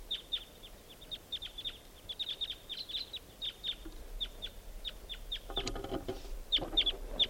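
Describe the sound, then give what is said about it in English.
A steady stream of crossbill calls: sharp, high, clipped chips repeated in quick, irregular bursts from start to finish, with a short rustling noise breaking in near the end. “I hear pair birds. A lot of crossbills around here.”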